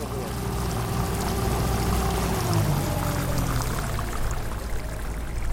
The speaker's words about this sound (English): Find a place to hold on. I drive very slow. This is not a very long trip. It's an extremely short boat ride, but we don't want to go swimming on the way over there.